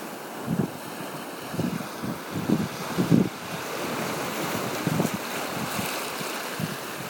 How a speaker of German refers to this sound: Ihr seid quasi direkt über dem Wasser. Ich stehe im Wasser und lasse mich von den Wellen umspülen.